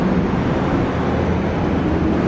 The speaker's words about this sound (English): Right now it's kind of loud because I'm walking down under the underpass. Getting from my house to the water is the only thing about it that sucks is that you gotta pass by this underpass. There's no way around it. And it's always loud and shitty.